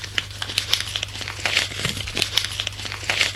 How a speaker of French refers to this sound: Et on sort des billets.